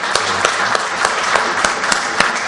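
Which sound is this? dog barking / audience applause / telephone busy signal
audience applause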